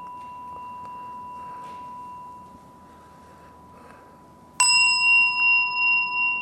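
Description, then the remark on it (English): A gong is struck once at the Barry Center, loud, then rings on with a slow pulsing wobble in its tone; before the hit, a quieter steady ringing tone lingers. No one speaks. “Can you hear that gong okay?”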